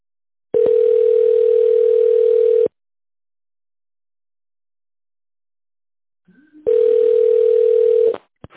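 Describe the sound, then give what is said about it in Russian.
A telephone ringback tone while a call to the office of the Mirex group of companies connects: two long, steady, mid-pitched buzzing tones, each about two seconds, separated by a silent pause of roughly four seconds. No one speaks. “Если вы знаете внутренний номер сотрудника, наберите его, пожалуйста, в тоновом режиме или дождитесь ответа офис-менеджера.”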